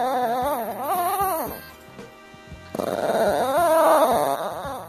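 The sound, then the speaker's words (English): A dog makes a drawn-out, wavering vocal sound that rises and falls in pitch like a tent being unzipped, in two close bursts separated by a brief pause. “Yep, pretty much sounds like a tent being unzipped.”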